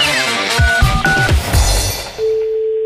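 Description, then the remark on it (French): A quick run of short telephone dialing beeps, several tones in a row, then a steady low-pitched line tone that continues to the end. No voices. “j'ai essayé de la faire financer par quelqu'un qui est très sympa, qui m'attend au téléphone, là, qui va décrocher, qui ne le sait pas encore, et qui va être très content de me financer.”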